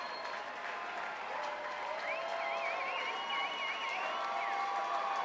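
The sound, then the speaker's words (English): A sold-out concert crowd applauds and cheers steadily, a dense continuous roar of clapping, with a shrill, wavering whistle cutting through the middle for a couple of seconds. “And a sold-out crowd that won't let him go, for sure.”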